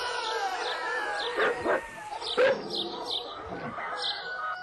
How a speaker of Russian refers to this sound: Собаки тоже погнались за ним с лаем. Кто-то захохотал, потом свистнул. Собаки залаяли громче и дружнее.